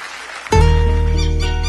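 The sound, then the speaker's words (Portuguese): A half-second of dense crowd clapping, applause for the accordion players (gaiteiros) of southern Brazil, gives way abruptly to a loud, sustained, harmonically rich musical chord that rings on to the end. “Uma salva de palmas para os gaiteiros do sul Brasil.”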